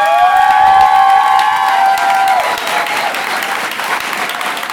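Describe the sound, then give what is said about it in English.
A crowd claps steadily and loudly for Steve Dick, a candidate for Guelph, with cheers and a sustained whistle-like tone over the first half before the applause continues on its own, slightly softer. “And Steve Dick is a fantastic candidate for Guelph, as you've just heard, and I can tell from the applause you give him that you agree with me.”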